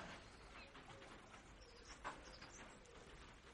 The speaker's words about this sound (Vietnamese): tiếng chim hót